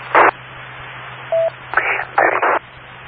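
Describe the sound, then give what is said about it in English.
A radio link keying up an EchoLink transmission: short bursts of hissing static open and close over a steady low hum, with a brief pure mid-pitched beep in between. No one speaks. “I mean, it was a little bit difficult just before when someone was keying up the echo link, but instead of dropping down 16 decibels, you went up 6 decibels.”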